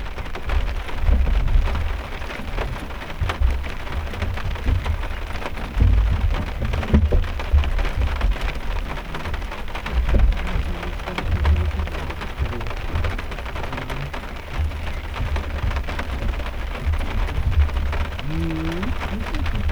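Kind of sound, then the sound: nature, rain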